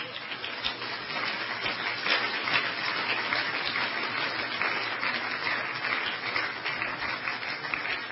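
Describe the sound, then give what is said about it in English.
A crowd claps for people as they come forward during a prayer call: the dense patter of many hands holding at an even, fairly loud level for several seconds with no pauses. “Let's give them a clap as they come.”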